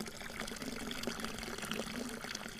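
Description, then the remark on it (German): Cold water pours steadily into a trough at the Auinger Hof, a site of the University of Vienna's Konrad Lorenz Research Station in Grünau im Almtal, Upper Austria; a continuous splashing with a low churning tone underneath, no voices, unbroken for the whole stretch. “Und von herrlich kaltem Wasser, direkt aus dem Trog, an dem sich wohl auch schon Konrad Lorenz gelabt hat.”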